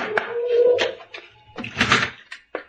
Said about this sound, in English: Hey, let me knock. What's the matter? Don't I know how to beat on the door? No one's answered, have they?